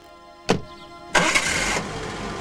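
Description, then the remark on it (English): A sharp thud as the door of a Jaguar car shuts, followed by the engine cranking to life with a loud roar that settles into a steady, lower running rumble as the car drives away. “He closes the door and drives away, his briefcase still sitting on the roof of the car.”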